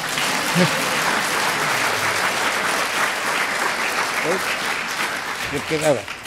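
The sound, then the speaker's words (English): Steady applause from an audience fills the whole stretch, dense and even, with brief bits of voices and a cheer or whoop poking through near the end. “If you're going to clap, clap properly.”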